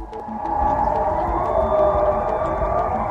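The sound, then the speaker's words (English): Civil defense sirens across Switzerland, sounded every year on the first Wednesday in February, wail in a steady, sustained tone, loud and continuous, with a faint low rumble underneath and no voices. “So, why is peaceful Switzerland resounding to the noise of sirens?”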